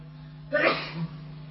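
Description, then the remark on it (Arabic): A single sharp sneeze bursts out suddenly mid-clip, fairly loud against a quiet, humming background, with a short breathy tail after the burst. “يرحمك الله”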